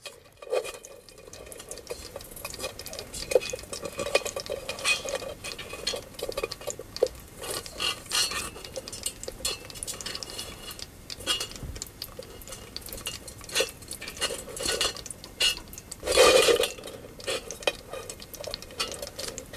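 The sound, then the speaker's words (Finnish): Crayfish, soon to be boiled, crawl inside a cooking pot, making a steady stream of dry scratching, clicking and scraping against metal, with a few louder rattling bursts, no voices present. “Eli ravut ryömii kattilassa, ehkä onnellisen tietämättöminä seuraavista hetkistä.”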